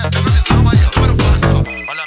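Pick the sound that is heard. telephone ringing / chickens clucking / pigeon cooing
telephone ringing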